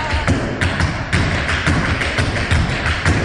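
Tap dancing feet clatter in a quick, steady rhythm, sharp bright taps mixed with lower heel thuds, fairly loud and continuous with no voices; a dancer performing tap, an American dance style of rhythmic footwork.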